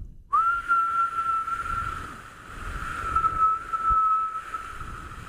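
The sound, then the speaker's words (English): A steady, high-pitched lip whistle holds one sustained note for about five seconds, wavering slightly in pitch, as something is brought closer to the mouth to see when the whistle stops, over a soft rumbling background with no talking. “and it's like whistle, and then bring it closer to your mouth as you whistle and see when it stops.”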